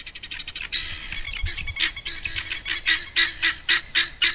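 Harsh, rasping bird calls repeat in quick rhythmic bursts, a chattering guinea fowl cry with loud, grating pulses and a few rapid clicks at the start, no voices present; guinea fowl kept as pest control on Hinterland Fijoas, an organic feijoa farm in Australia.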